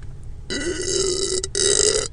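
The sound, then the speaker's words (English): A loud burp in two drawn-out bursts separated by a brief pause, deep and throaty with a raspy, buzzing tone, standing alone without any talking. “Much like that burp.”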